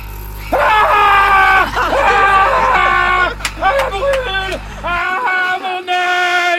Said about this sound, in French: Ah bah voilà, ça arrive, hein. Quand c'est chaud, ça brûle les chairs, ça fait hyper mal. C'est normal de hurler.